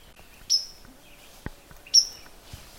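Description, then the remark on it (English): Two clear, high whistled notes of a white-throated sparrow ring out about a second and a half apart in quiet mixed woods on a calm, windless day. A couple of soft thuds like a hiker's footsteps fall between them. “That loud note you hear, that's actually a white-throated sparrow.”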